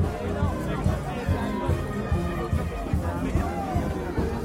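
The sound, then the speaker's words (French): A dense, bustling crowd at the Granville carnival on its second day fills the scene with overlapping chatter and babble, steady and fairly loud, with no single voice standing out, as someone makes their way through the crowd. “Nous nous frayons un chemin à travers la foule.”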